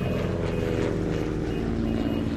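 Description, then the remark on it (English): A loud, steady roar of an airplane taking off, with a deep engine drone and a rumbling low hum filling the whole moment, continuous with no voices. “An airplane takeoff or two?”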